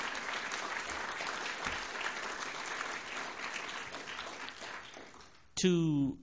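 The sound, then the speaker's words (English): Sustained applause from a conference audience thanking the people who did all the home baking, a dense wash of many hands clapping that fades slightly before a voice begins speaking at the very end. “You can applaud them, because I think we all really appreciated that.”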